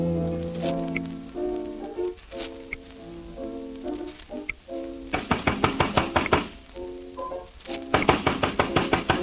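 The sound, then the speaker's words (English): A pianist plays piano music inside a five-apartment building, then a visitor pounds on the pianist's door in two rapid bursts of loud, repeated knocks that ring out over the sustained notes. “I don't believe he hears us. Oh, yes, it's always this way. I'll just keep pounding.”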